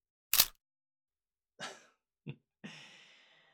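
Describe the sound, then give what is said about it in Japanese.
Four sharp camera shutter clicks at uneven intervals as photos are taken of a woman's facial expressions. The first is the loudest and crispest, the last trails off with a brief mechanical whir. No one speaks. “シャッターを切るたび、君が発情したメスの表情になっていく。”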